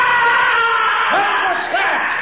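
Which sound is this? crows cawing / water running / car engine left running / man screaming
man screaming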